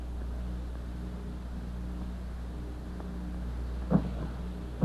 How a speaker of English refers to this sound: Oh, my lovely boat sinking beneath my feet.